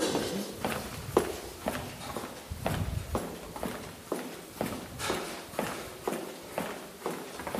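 A woman's steady footsteps walk briskly across a hard floor through a company's central archive, about a dozen crisp, evenly spaced steps at moderate volume, with no talking.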